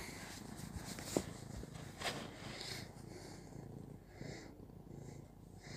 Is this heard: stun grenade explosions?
no